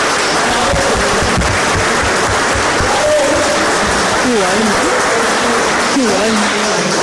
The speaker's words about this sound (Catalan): Un aplaudiment.